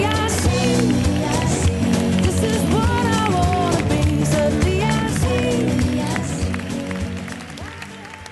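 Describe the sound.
An audience breaks into loud, sustained applause mixed with cheering voices, a dense clatter of clapping that holds steady and then begins to taper off near the end.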